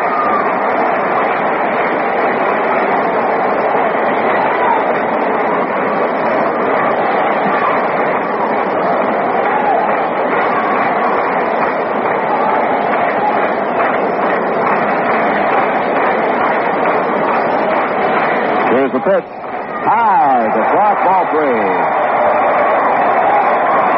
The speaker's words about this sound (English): And crowd gets a little more rambunctious. Hoping for a Yankee rally here in the third inning.